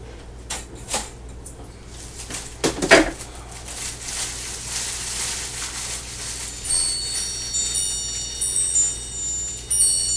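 A toaster: a few sharp clicks and a louder clunk, then a steady rushing hum, with faint high electronic chime tones ringing over it toward the end. No one speaks.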